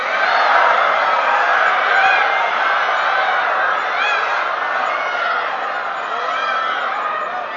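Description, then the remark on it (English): A large audience imitates peacock calls, a dense chorus of loud, overlapping, rising, wavering cries mixed with whoops and laughter that stays steady throughout. “Do you know how to sing like peacocks? You may try.”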